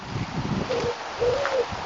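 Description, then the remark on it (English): A pigeon coos a few soft, low, throaty notes in a short rolling phrase, heard outdoors in a local park over a steady background hiss of wind and other noise. “Can you hear that pigeon?”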